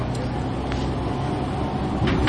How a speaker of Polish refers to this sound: Wsiadam do autobusu.